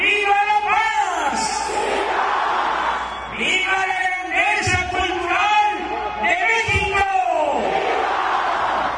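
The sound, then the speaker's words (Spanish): A huge outdoor crowd of more than 80,000 people at Mexico's National Palace shouts in loud, surging waves during the traditional Independence Day cry, roaring cheers rising and falling about three times, with a booming voice echoing between the bursts. “Desde el balcón central del Palacio Nacional y ante más de 80.000 personas, López Obrador cumplió con el tradicional grito”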